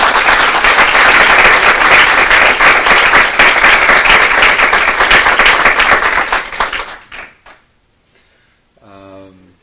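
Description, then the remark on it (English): A crowd applauds loudly and steadily for about seven seconds, for four speakers at the end of an evening session, the clapping dense and sustained before it tapers off into scattered claps, followed by a brief voice speaking. “Can I get another round of applause for all four of our speakers?”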